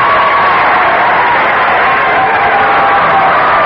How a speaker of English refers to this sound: Let's hear a cheer for that, please.